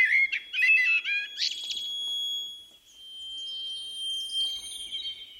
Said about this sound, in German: Amsel.